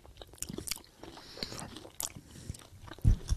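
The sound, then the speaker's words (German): Crisp crunching bites into honey-coated nuts, a series of sharp, irregular cracks and chews with brief pauses, ending in one louder, heavier crunch. No one speaks. “Nur wenn man dann einmal diesen ersten Biss gemacht hat, dann merkt man, oh, so fest sind die gar nicht.”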